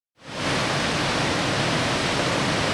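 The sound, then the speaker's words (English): Second Waterfall, about 15 miles north of Ketchikan, Alaska, by the former Salmon Falls Resort, roars onto a rocky shoreline in a steady, dense wash of rushing water, rising quickly after a brief silence and staying loud throughout, with no voices. “About 15 miles north of town, Second Waterfall gushes into a rocky shoreline.”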